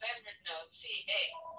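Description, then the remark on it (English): A telephone rings in a few bright, warbling electronic bursts, moderately loud, with no one speaking over it. “I'm going to disconnect that phone.”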